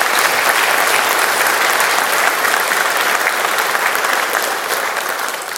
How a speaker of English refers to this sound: I'll give those four a round of applause as well.